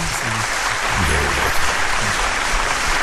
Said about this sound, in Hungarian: Közösség tapsol!